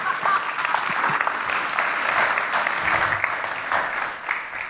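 A crowd claps steadily in a dense, even burst of applause lasting several seconds, with a few faint voices mixed in underneath, welcoming a teacher introduced to speak at a service.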